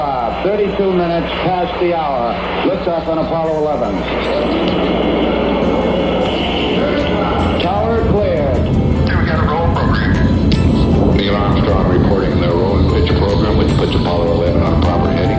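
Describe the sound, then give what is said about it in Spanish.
The five first-stage engines of a Saturn V rocket roar at the Apollo 11 launch, a deep, steady, deafening rumble that holds loud for the whole stretch while voices talk continuously over it. “5, 4, 3, se encienden los 5 motores de la fase 1 del cohete Saturno 5. El ruido es ensordecedor.”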